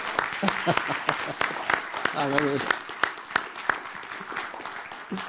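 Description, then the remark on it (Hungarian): An audience applauds steadily for about five seconds in praise of Christ, a dense patter of many hands clapping at even loudness, with a brief voice rising above the clapping partway through. “Ezért most köszöntjük őt egy nagy tapssal.”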